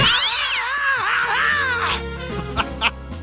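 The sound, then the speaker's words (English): Loud, drawn-out cat yowls with a wavering, sliding pitch as cats are launched from a cat launcher at a pizza delivery man in the animated series Family Guy, then a low rumble and a couple of short, sharp bursts. “Pizza delivery man, prepare to meet your maker at the hands of my cat launcher.”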